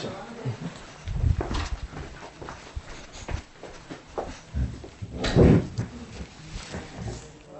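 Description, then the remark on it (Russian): A door is opened with a couple of dull knocks and rattles, one near the start and a louder one later, amid shuffling footsteps and faint voices. “А, вот эту дверь.”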